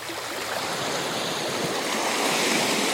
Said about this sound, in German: Also für mich ist einfach das Meeresrauschen und wenn so die Wellen in den Sand rieseln und es so leicht prickelig klingt, das klingt für mich, das ist für mich ein Sommergeräusch, wo ich irgendwie sofort Erholung spüre.